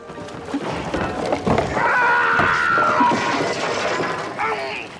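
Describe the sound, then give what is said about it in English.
A sustained, high-pitched movie scream of Captain Quint from the film Jaws cuts through a rough, clattering background, holding its wavering pitch for over a second before trailing off into noise. “You've got scary ones, like Captain Quint from Jaws.”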